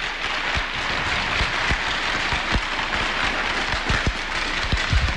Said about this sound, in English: I think you guys should all be slapping your sticks on the ice. What a game that was here today, guys. Give yourselves a round of applause.